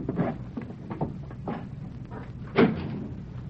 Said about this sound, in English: I could have sworn I heard a board creak. Someone standing outside that door.